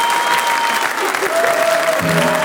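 An audience applauds a band at a live show, steadily with dense, continuous clapping, loud and sustained throughout, with a few faint whistles or cheers rising over the noise.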